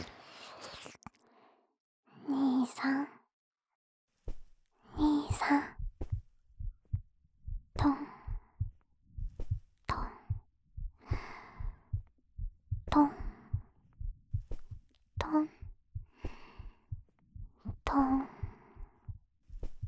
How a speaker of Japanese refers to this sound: 心音聞こえる？